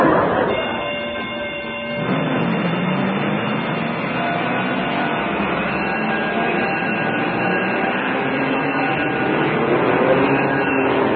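A train rumbles steadily and loudly up close, a dense mechanical roar with faint tonal whines running through it, slightly softer for a moment before settling into a continuous drone.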